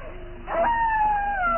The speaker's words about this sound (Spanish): Se escuchan aullidos lejanos y Lucas sonríe con expresión enloquecida.